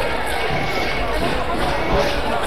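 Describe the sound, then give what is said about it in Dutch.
A dense, steady wash of crowd noise from many people walking together in a protest march near the Binnenhof, a murmur of overlapping voices and shuffling without any single voice standing out, sustained at an even level throughout. “Nou, de demonstratie is weer compleet.”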